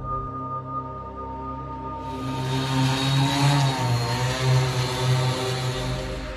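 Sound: drone flying overhead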